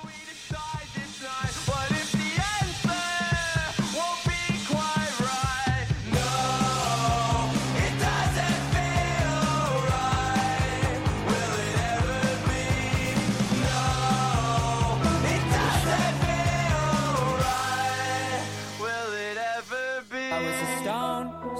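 A loud rock song plays steadily on Clubhouse Radio, broadcast on 90.7 FM WGXE in Hudson, with a sung vocal line over driving drums, a solid bass, and dense guitars. The sound is full, with no talking over it.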